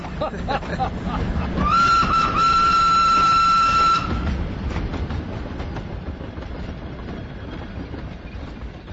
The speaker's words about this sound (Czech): Noćni voz za Madras samo što nije krenuo. Sreća je da vozovi ovde uvek kasne.